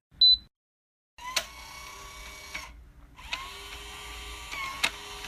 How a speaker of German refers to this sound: Einmal auf das Smartphone getippt und schon piept es und ein Motor entriegelt das Türschloss.